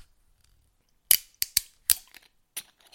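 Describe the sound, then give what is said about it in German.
A bottle with a screw cap instead of a cork cracks open with a quick series of sharp, dry clicks and snaps, about five bursts in rhythm, loud against an otherwise quiet background with no talking. “Ihr hört, wir haben keinen Plop, sondern einen Knack.”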